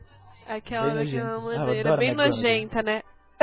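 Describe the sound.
A voice imitates a little throat clearing: a run of voiced, nasal 'hem'-like sounds lasting a few seconds, with a brief sharp click at the very end. It mimics the 'hem-hem' cough of the Harry Potter character Dolores.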